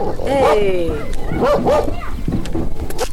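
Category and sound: animal, dog barking aggressively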